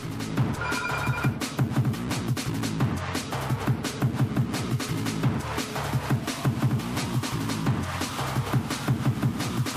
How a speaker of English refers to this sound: I've got a phone call. Hold on.